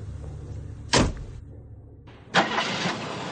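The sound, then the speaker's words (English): A car door thuds shut, a brief lull follows, then a car engine turns over and catches into a steady rumbling idle. No one speaks. “Come on, get in the car.”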